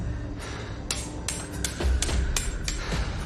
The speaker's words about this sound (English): Squealer slowly walks over to her, tapping two knives against each other.